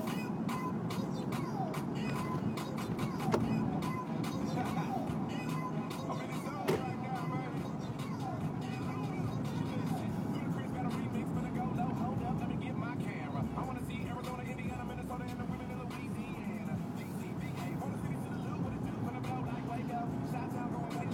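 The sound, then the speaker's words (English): A steady, dense rumble of slow freeway traffic fills the whole stretch, with engines droning and passing vehicles blending into one continuous wash of road noise. “Yep, these cars on the freeway are not moving particularly well.”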